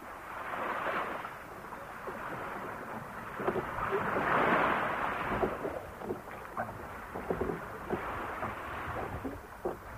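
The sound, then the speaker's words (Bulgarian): A small fishing boat being rowed on the open sea, with a steady rush of sea and wind and scattered splashes and knocks from the oars, with no voices. “По-бързо! По-бързо греби!”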